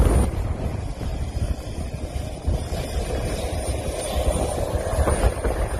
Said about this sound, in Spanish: Esa era la escena esta pasada noche, prácticamente en completo silencio, solo roto por el ruido de los motores del avión, y en fila de a uno iban embarcando esta noche los 50 militares españoles